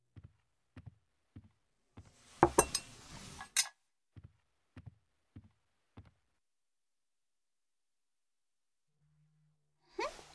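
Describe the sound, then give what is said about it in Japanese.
Dishes and cutlery clatter as they are set down after a meal with a bright ceramic clink, surrounded by a steady run of soft, evenly spaced thumps like footsteps, then a short knock near the end. “食器適当に置いておいて、洗っておくから。”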